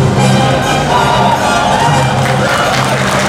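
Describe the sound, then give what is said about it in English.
A crowd applauds a costume contestant's Fire Emblem Fates costume in a steady, dense wash of clapping that holds at an even loudness for a few seconds, with a faint murmur of voices and a low hum underneath. “Definitely a round of applause.”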